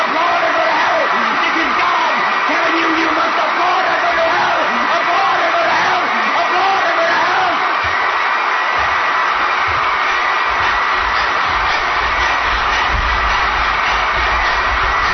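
A crowd cheers and applauds for The Perry Logan Show in a loud, sustained roar for about fifteen seconds, with whoops and shouts rising above dense clapping and no clear break.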